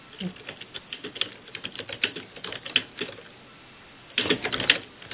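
Rapid, uneven clicking of keys on a computer keyboard, with brief pauses and a denser burst of keystrokes near the end.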